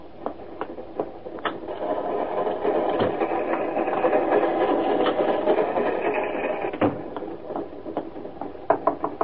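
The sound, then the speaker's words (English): Steady mechanical rumble of a moving train heard from inside a carriage, with irregular clicks and clacks over a dense, even hum that swells slightly in the middle and eases toward the end. No voices. “I heard you were on the train and...”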